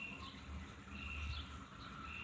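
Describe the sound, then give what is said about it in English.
Faint birds chirp in the middle of a city over a steady low rumble of city traffic, their high calls coming and going in thin streaks with no one talking. “Just enjoying the birds.”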